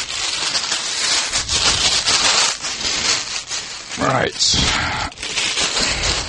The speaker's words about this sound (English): Right, let's get this wrapper off.